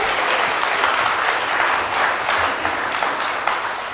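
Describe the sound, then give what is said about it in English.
A crowd applauds steadily for the full four seconds, a dense, even wash of hand claps at fairly loud level, with no speech over it. “A vast army, and we applauded.”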